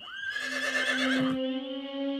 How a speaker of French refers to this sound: Soudain, elle entendit les hennissements de son cheval.